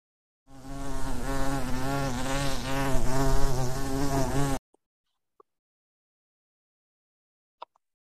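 A bee buzzes loudly and steadily for about four seconds with a low, wavering hum, then stops abruptly, leaving near silence broken by a few faint clicks.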